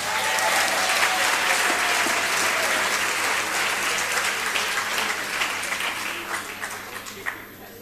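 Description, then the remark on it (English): A crowd applauds after the announcement that government will zero rate sanitary pads, with dense, even clapping that holds strong for several seconds, then gradually thins and tapers off toward the end. “I thought you'd clap.”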